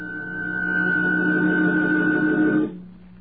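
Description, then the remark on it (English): A telephone rings in one steady, sustained burst lasting a couple of seconds, fairly loud, then cuts off abruptly, leaving a quiet low hum. “So will that phone ever stop ringing so we can get on with this?”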